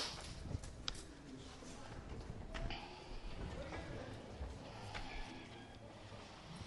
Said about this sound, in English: And he doesn't even notice the next set of footsteps coming towards him.